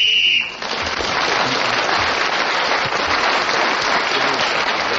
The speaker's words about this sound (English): So Clement Freud was then speaking when the whistle went, gained that extra point.